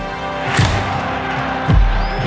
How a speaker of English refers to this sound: The roar of the fans, the energy of the city, united as one, was unlike anything I'd ever experienced. RFK Stadium was the stage for the world's greatest in sports, culture, and entertainment.